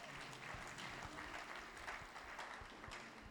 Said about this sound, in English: Can you give a clapping offering to Christ?